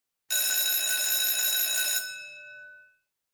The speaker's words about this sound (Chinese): 对不起，刚才是学校铃声，现在是休息时间。